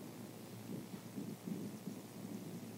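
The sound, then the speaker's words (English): Steady rain pours down outside with a low, rumbling wash, and thunder seems to roll beneath it. The sound is continuous and fairly quiet, with no voices. “And now it's raining, so I'll preach till it's done.”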